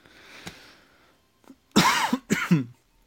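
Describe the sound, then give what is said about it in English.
Two loud, harsh coughs in quick succession, after a brief quiet stretch with faint background noise and a small click. “I apologize. I should have hit the cough button on that.”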